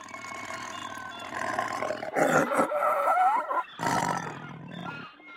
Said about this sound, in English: Shh, that's Shere Khan, the tiger. Is Shere Khan bad? Yes. Very bad.